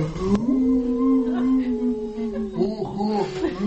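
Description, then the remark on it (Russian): A long, drawn-out wolf-like howl from dead men at a gallows holds a steady mournful pitch for several seconds, then wavers and breaks toward the end, loud with no other sounds around it. “И тут младший брат понял, что это мертвецы воют.”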